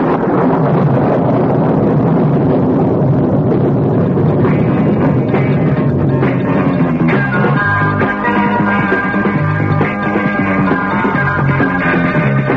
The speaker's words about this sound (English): And there it is. A spaceship. And it fires lightning at us. Look out!